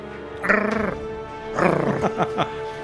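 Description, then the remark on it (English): A dog growling sound effect played from a soundboard: two rough, rumbling growls, the second breaking into a few short, sharp barks, loud over a steady low background hum. “Mason is going to take out the soundboard. Don't mess with the dog.”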